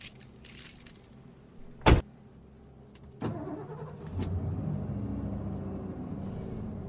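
Keys jingle briefly, a sharp thud lands, then a truck engine turns over and settles into a steady, low rumbling drone that continues to the end. No one speaks.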